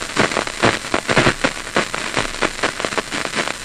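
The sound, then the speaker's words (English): Dense, irregular crackling pops of individual brain cells firing inside the head of a resting rat, heard through an electrode recording from a cable of microphones coming out of its skull: a steady static-like patter of sharp snaps at varied loudness, continuous throughout with no voices. “You can hear this kind of snap, crackle, pop sound. These are individual cells that are firing.”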